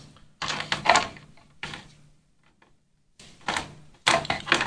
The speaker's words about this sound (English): Shuffle, shuffle. Dice rolling, dice rolling. There's a lot of dice rolling in this game, if you haven't noticed.